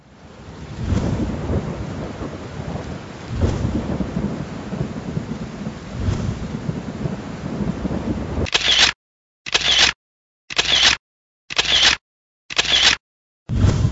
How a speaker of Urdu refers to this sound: پشاور میں طوفانی بارش، 15 افراد جاں بحق، 71 زخمی.